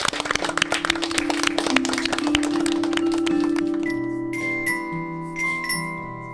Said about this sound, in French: Allez, je vous applaudis aussi.